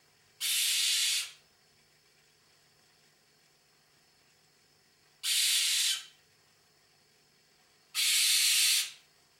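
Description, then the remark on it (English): A male short-eared owl's harsh, raspy scream sounds three times, each a breathy, hissing burst just under a second long, separated by several seconds of near silence. “The males make a long, harsh scream, and often they call repeatedly from the air, while the females are mostly silent.”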